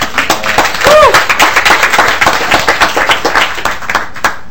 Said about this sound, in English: No, that's absolutely true. I think they deserve another round of applause.